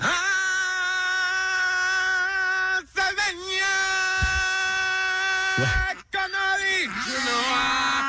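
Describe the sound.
A few donkeys on a farm bray in loud, long, drawn-out cries alongside a man's singing voice, the sustained wavering calls broken by a couple of short pauses before rising again into a harsher, noisier stretch at the end.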